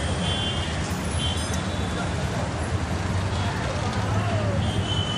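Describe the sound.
Dense, steady city traffic ambience: a continuous rumble of engines and vehicles with a faint murmur of voices and occasional thin high-pitched beeps, loud and unbroken throughout.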